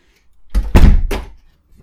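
door being shut

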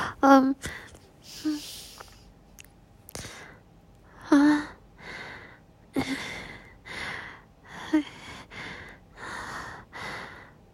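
heavy breathing

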